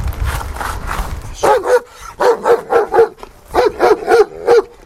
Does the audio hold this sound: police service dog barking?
yes